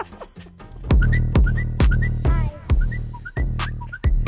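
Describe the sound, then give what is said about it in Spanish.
A bright whistled melody of short rising notes plays over a steady thumping beat with heavy bass, upbeat, lasting a few seconds with no talking. “Hay alguien que ha atascado y no... Y se va silbando.”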